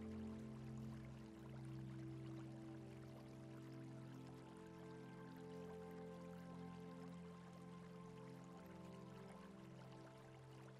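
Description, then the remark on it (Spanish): A steady, continuous trickle and splash of water from a stone fountain, soft and unbroken for the whole stretch, with a low resonant hum underneath and no voices. “Hay una bonita fuente de piedra que emana agua, emitiendo un sonido muy agradable y relajante.”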